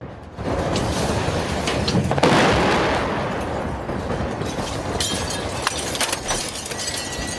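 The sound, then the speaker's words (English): A massive explosion from a Russian airstrike on a maternity ward in Mariupol, Ukraine, erupts with a sudden blast, then a sustained roar of rumbling, crackling debris that persists for several seconds, loud, caught on camera nearby, with no voices. “The reporters for the Associated Press were nearby when the attack happened and caught the explosion on camera.”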